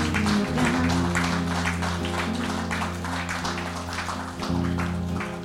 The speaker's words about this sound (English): Gentlemen at the back, let's give a hand of applause to the Lord this morning.